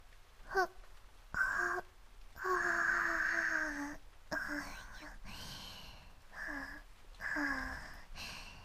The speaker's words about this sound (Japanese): あくびが出ちゃいます。